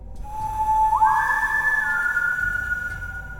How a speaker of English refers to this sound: Then I did something you may consider strange. I whistled. Just three notes, one low, one high, and one in the middle.